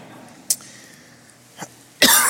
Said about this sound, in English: So you take a drink of water so you don't cough, and you choke on the water.